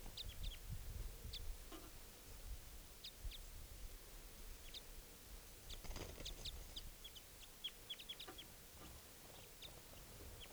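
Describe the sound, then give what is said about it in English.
A wild bird calls from up in the trees in short, high chirps scattered irregularly throughout, over a low outdoor rumble with no one talking, while it is being recorded. “The other wild bird still up in the trees calling.”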